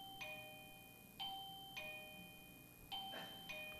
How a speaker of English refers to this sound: Perhaps he's ringing the bell, but I don't think so. I think we have a child who went outside and found the doorbell. But I'm going to take a look here, just to be sure.